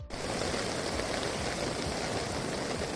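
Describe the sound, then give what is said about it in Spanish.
A torrential rain downpour in the town of Vera, Navarra, this morning roars steadily, a dense, unbroken wash of hissing water that starts abruptly and holds at the same loud level throughout, with no voices. “Así sonaba una tromba de agua caída esta mañana precisamente en Vera, en esta localidad navarra.”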